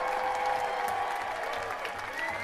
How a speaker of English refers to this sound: How about it? Applaud yourselves, you are awesome.